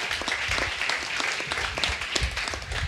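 A crowd applauds steadily, many hands clapping in a dense, even patter that holds at a moderate level for about three seconds, with no one speaking over it.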